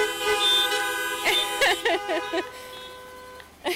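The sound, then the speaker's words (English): Several car horns honk in a rapid, overlapping cluster for a children's sixth birthday, some sustained and some in short blasts, amid a bustle of voices and traffic. “Can we give lots of big honks”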